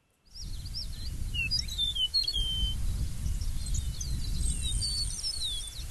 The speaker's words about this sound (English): Well, how about let's give a listen to another bird now. This will be the eastern meadowlark.